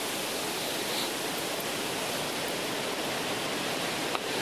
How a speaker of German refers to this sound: Was rauscht hier eigentlich? Ach, da oben Wind, ja.